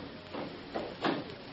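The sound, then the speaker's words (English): A library door swings shut with a few soft, muffled bumps over about a second, the last one slightly louder, with no voices over a quiet hiss. “Go ahead, close the door.”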